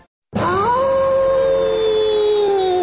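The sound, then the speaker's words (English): A single long werewolf howl, from a man who turns into a werewolf at the full moon, bursts in after a brief silence, sliding upward and then holding a steady, loud, mournful tone to the end, with no other sounds. “My goodness, I am tired of being known only as the guy who turns into a werewolf at the full moon.”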